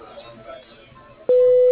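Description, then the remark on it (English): Faint murmuring voice of an office phone voicemail greeting, then a loud, steady mid-pitched beep cuts in abruptly and holds to the end, the voicemail tone signaling recording has begun. “If you would please leave him a detailed message at the sound of the tone, he will return the call as soon as possible.”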